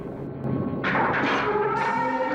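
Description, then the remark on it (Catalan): A heavy metal cell door in the Steel Tower, on a snowy plain in a Goku story, is opened with a loud grinding screech, wavering metallic tones and a few clunks as it swings, over a low rumbling background. “Algú obre la porta de la cel·la.”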